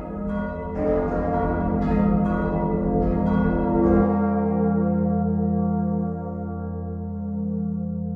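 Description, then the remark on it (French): Large church bells, made by the same maker in the same factory and era as the original Notre-Dame bells, ring loudly in a soundscape of the Notre-Dame construction site, with several overlapping strikes, then a deep, rich hum that lingers and slowly fades. No voices. “on commence dans le chantier de Notre-Dame avec un soundscape, un paysage sonore créé par Mylène, qui était des cloches fabriquées par la même fabricante dans la même usine de la même époque que des cloches d'origine de Notre-Dame.”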